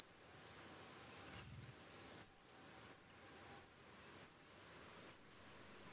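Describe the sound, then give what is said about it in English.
A very high-pitched small bird call, thin, piercing notes repeated about eight times in a steady rhythm, fairly clear against a quiet background with no talking. “And the other thing, the best way of detecting them maybe is if you can tune in to their call, which is a very, very high pitch.”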